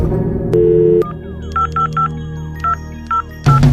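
A short steady tone gives way to a run of crisp telephone keypad dialing beeps, six or so quick tones at uneven intervals, clear with no one talking.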